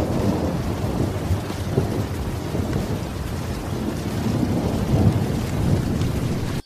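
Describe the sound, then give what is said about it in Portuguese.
Very heavy rain pours down in a steady, dense roar in Batalha, Piauí, turning a road into mud, with a deep rumble running underneath throughout. No voices, just the continuous downpour from start to finish. “A chuva, muito forte, logo transformou a estrada em lama.”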